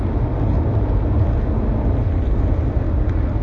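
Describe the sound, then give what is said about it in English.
A steady low rumble fills the space, the muffled drone of road and engine noise from inside a moving car in Spain in the late afternoon, constant and fairly loud with no voices or distinct events. “Now, it's too hot in this car.”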